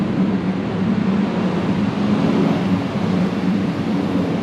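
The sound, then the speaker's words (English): A loud, steady engine rumble from a large fire truck rolls past on Main Street, a deep, continuous roar with no siren and no voices. “We're here on Main Street where fire trucks go by.”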